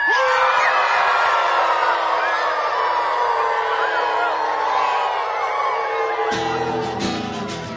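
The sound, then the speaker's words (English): A crowd of people howls together like wolves to welcome the wild wolf back to Washington, a loud, sustained chorus of overlapping rising and falling wails with whoops mixed in, tapering slightly near the end. “Have a howl welcoming back the wild wolf to Washington.”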